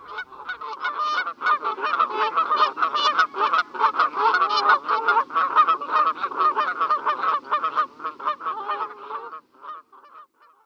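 A noisy flock of Canada geese honks continuously and loudly, with many overlapping calls for about nine seconds before tapering off to a few scattered honks.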